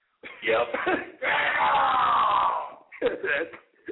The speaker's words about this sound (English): Okay, that's who's yelling in the background.